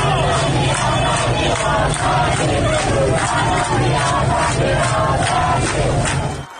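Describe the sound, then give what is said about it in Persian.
A large crowd of protesters chants and shouts together in the street in Borujerd, Lorestan province, Iran, a dense, loud roar of many voices with rhythmic surges, sustained steadily throughout. “همزمان با این مراسم در برخی از شهرهای استان لرستان هم معترضان به خیابان‌ها آمده بودند.”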